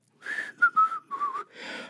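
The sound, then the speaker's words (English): A person whistles a short, lilting melody, several clear notes gliding between pitches with slight breathy edges, and no talking around it. “He took her at her word and sat himself down to the wheel and whistled and sang.”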